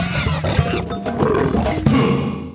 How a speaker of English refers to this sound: But with that said, we're now done with the zoo news and move on to Stereotypical Animal Podcast Theme Song.